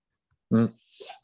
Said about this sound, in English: Taking a sip of my coffee.